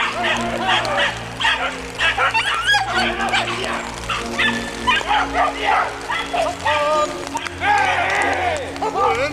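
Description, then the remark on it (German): Several hunting dogs bark excitedly and continuously in an agitated chorus at a wild boar sow, with yips and whines mixed in, outdoors while a person's voice can be heard shouting alongside. “Die Hunde haben eine Sau! Die Hunde haben eine Sau hier vorne!”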